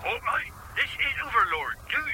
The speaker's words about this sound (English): And I said I'd phone you. The ringtone could give me away.